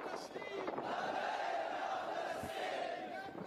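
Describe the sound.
A large crowd in Herat chants "Labbayk ya Quds" in unison in solidarity with the Palestinian people, a loud, sustained collective shout of a rallying slogan, with many voices blending into a steady roar that rises and holds throughout.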